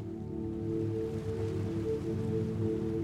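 A steady, continuous rush of ocean surf on a long sandy beach at night, washing without clear breaks, a soft hissing wash layered over a low, sustained hum. No one speaks.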